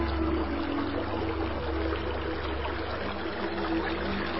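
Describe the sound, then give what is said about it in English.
Shallow water ripples and trickles steadily, a continuous wash of gentle burbling with no pauses and no voices. “It's rippling.”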